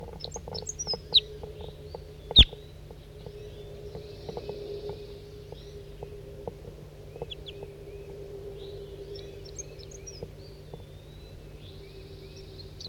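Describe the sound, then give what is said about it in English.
Scattered short, high-pitched chips from a flock of crossbills, coming singly and in small clusters throughout, over a steady low hum with one sharp click early on. No one speaks. “And I think there's a flock of crossbills around here somewhere.”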